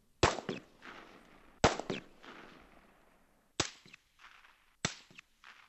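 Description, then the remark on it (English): Four gunshots from loud and muted weapons, well spaced: two loud, booming shots with long echoing tails, followed by two sharper, more muted pops that die away faster. No voices. “Well, we do have a some sense of the difference between loud weapons and muted weapons.”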